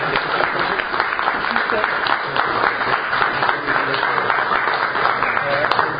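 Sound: audience applause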